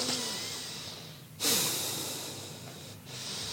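Two deep, forceful breaths, each a long airy rush of inhale and exhale, the first starting around midway and the second following shortly after, with no talking; a demonstration of a breathing technique in which two deeper breaths follow 30-50 connected breaths through the nose or mouth.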